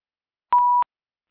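A single short electronic beep from a telephone keypad button being pressed, a steady pure tone lasting about a third of a second, with silence around it.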